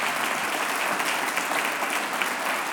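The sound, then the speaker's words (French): Steady applause from an audience for firefighters, a dense, even wash of many hands clapping at constant loudness throughout, with no voices standing out. “Oui, on peut vous applaudir, ça, c'est sûr.”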